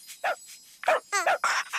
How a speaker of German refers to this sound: Hey, hast du das gehört? Der Hund lädt dich in sein Körbchen ein.